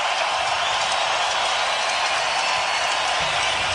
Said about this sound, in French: Ça, c'est la foule après le match hier. Personne n'a quitté.